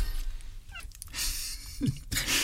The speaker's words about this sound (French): Coupez le chat, dis donc. Pauvre bête. Pauvre bestiole.